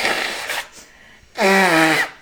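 Someone blows their nose: a short breathy rush of air, a pause, then a louder honking blow lasting under a second, its pitch sliding slightly downward.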